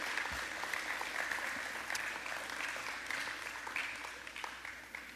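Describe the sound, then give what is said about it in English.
An audience claps steadily for the children as they are dismissed to go to kids' church, a dense, sustained wash of applause from many hands that holds at a moderate level and tapers off slightly toward the end. “With that being said, all the kids, little babies, all the kids that are headed out today, would y'all please clap for the kids as they are dismissed to go to kids' church?”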